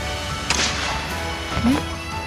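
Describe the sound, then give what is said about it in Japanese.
Two sharp gunshot cracks, fired as a signal to draw a caravan's attention, sound about a second apart, each a quick, bright burst with a short ringing tail, over a low, steady background rumble. “銃を鳴らせ。銃声でこっちに気づかせるんだ。”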